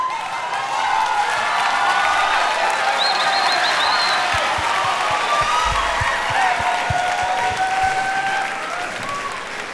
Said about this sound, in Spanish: Aquí están, un aplauso para ellos,